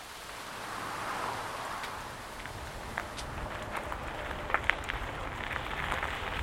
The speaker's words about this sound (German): Eine knappe halbe Stunde später schüttet es wie aus Kübeln. Der Regen zwingt mich, unter dem Vordach einer Hütte stillzusitzen.